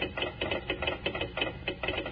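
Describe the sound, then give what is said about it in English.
Kellogg's Rice Krispies crackling as milk is poured over them: a dense, rapid snap and pop of tiny clicks that swells and fades in quick pulses, fairly loud, with no talking. “Now, how about telling us why Kellogg's Rice Krispies sound off like that when you pour milk or cream over them?”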